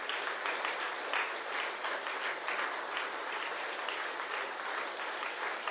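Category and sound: crowd, hands clapping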